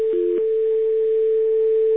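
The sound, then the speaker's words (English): A steady telephone dial tone as a number is called, to be routed through two different phone lines to an OmniPoint phone; it hums without a break, with one short dialing beep layered over it near the start. No voices are heard. “I'm going to put you on hold, and I'm going to call another number over here.”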